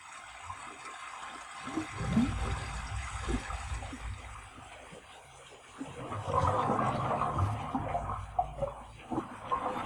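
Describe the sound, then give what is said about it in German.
Water pours and gushes steadily into the mash tun of a brewhouse, where water and malt are mixed as the first step of brewing beer, a continuous liquid rush with low rumbling churn that swells louder partway through, with no voices. “Als erstes kommen hier im Sudhaus an die Reihe Wasser und Malz.”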